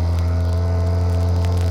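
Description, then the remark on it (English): The engine of a motorboat coming this way drones steadily, a low, even hum with a buzzing harmonic edge and a faint whir, holding constant throughout with no voices. “Boat coming this way.”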